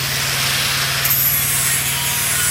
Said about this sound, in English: He's showing me a grinder that preps steel plates for welding.